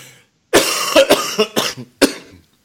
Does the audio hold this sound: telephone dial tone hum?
no